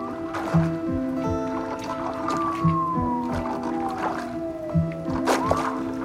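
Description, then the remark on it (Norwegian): Oars dip and splash through ice-cold river water as a rowboat crosses the river, in a slow, steady rowing rhythm, about one stroke every two seconds, with a faint creak and gurgle between strokes. “På vei over den iskalde elva i robåten har gjerningsmannen åpnet Kvikli-posen for å ta ut pengegevinsten.”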